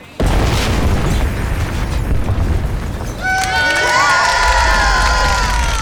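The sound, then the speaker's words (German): A sudden demolition blast of an old brickworks, after a countdown, erupts into a long, heavy rumble of collapsing debris, then a crowd breaks into cheering, shouting and high whistles over the fading roar. “Die Sprengung erfolgt in 10, 9, 8, 7, 6, 5, 4, 3, 2, 1.”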